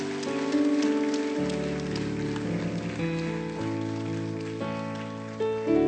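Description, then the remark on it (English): A crowd claps steadily in a dense, continuous patter that runs the whole time, mixed with sustained keyboard or organ chords that change every second or so. “Let's give these folks a big, big hand clap.”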